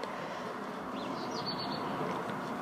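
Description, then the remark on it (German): A small bird faintly stirs in a garden birdhouse, with a few soft, brief chirps rising over a steady background hiss of outdoor noise. No one speaks. “Ich bin etwas abgelenkt, da hinten raschelt es irgendwie. Ach ja, da war ein Vogel. Ach so, der war in meinem Vogelhäuschen.”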